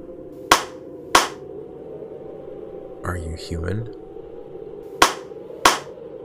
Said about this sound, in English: "How many are with you?" Clap once for each person.